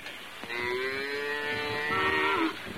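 A single long, loud cow moo held for about two seconds, a steady droning bellow with rich harmonics that fades out abruptly, with no talking.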